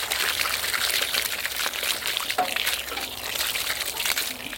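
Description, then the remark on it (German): Steady water pouring from a watering can into a bathtub, a continuous bright trickling stream that stays fairly loud throughout, with small sloshing variations and no talking, as in John Cage's composition for watering can and bathtub. “Der hat schon sehr interessante Sachen gemacht, zum Beispiel eine Komposition für Gießkanne und Badewanne.”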